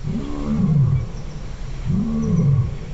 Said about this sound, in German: Ja, Löwengebrüll ist das. Und zwar in echt, nicht wie in König der Löwen.